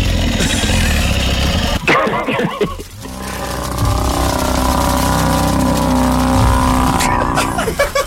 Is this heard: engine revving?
yes